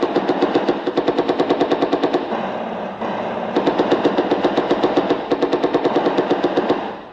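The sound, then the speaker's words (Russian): Rapid, steady bursts of machine gun fire in battle, fired on attacking enemy infantry, loud and continuous, with sharp repeated cracks in fast rhythm, a brief lull around the middle before firing resumes. No voices. “По фашистам огонь!”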